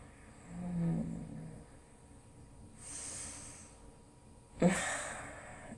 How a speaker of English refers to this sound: Just deep, even breaths.